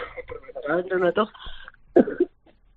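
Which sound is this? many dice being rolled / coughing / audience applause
coughing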